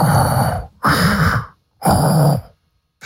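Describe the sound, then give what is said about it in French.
A voice imitates Darth Vader's heavy mechanical respirator breathing: three loud, harsh, rasping breaths, alternating in a slow, steady rhythm with short silences between them. “Alors, essaye de faire les Dark Vador. Attends, il fait comme ça.”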